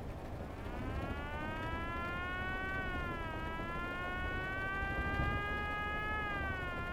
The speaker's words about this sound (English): What's that? Huh? Oh, the siren. Why, an ambulance, I guess. We heard a lot of them here in. That ain't no ambulance, it's a motorcycle cop.